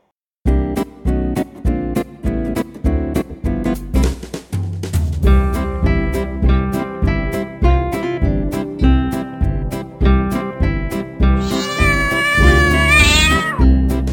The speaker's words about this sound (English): Come, come, cat, you're my pet, you say meow, meow, meow.